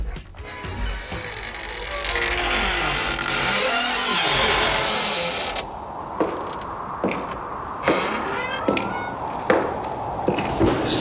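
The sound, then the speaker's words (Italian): A heavy truck engine rumbles loudly and revs as it pulls up at a petrol station, then settles into a lower idle punctuated by several sharp metallic taps or clunks. “Si apre la portiera di un camion e inizia a scendere un autista, poi un altro, da un altro camion, ed un altro ancora.”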